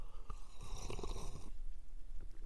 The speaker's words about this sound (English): All right, the beverage du jour today. I have got a humongous mug. Let me take a sip of it.